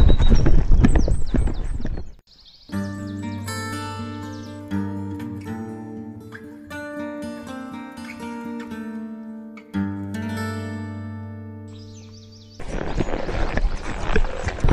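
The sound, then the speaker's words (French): Horse hooves gallop in a rapid, noisy rush at the start and again at the end as a rider races to catch up with another horse, with a sustained, steady musical passage filling the middle. No one speaks. “Et allez, maintenant il faut que je fonce comme un taré pour rattraper le cheval de l'autre débile.”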